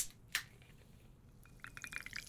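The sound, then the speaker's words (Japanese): A brief clink, then soda is poured into a glass over homemade ginger syrup to make ginger ale, and it starts fizzing, with a dense crackle of tiny popping bubbles rising. Quiet, with no voices. “あら、思ったより泡立つわね。”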